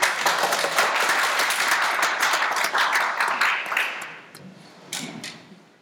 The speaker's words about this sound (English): Yeah, well, did I hear people start to clap?